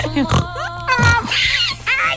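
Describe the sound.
A person imitates a pig's oinking with a few nasal, grunting snorts, loud, ending in a brief squeal-like note, against a faint steady background hum.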